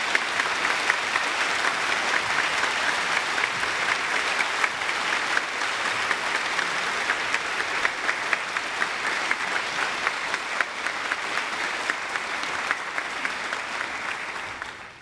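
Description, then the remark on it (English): An audience applauds the children as they leave for Sunday school, a dense, even patter of many hands clapping at a fairly loud level for about fifteen seconds before tapering slightly at the end. “I know we've asked you to hold your applause until the very end, but our children are leaving to go to Sunday school, and I thought it would be nice to show them our appreciation.”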